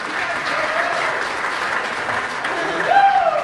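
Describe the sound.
Steady audience applause, a dense wash of clapping that holds at an even, fairly loud level throughout, with a brief voice rising over it near the end.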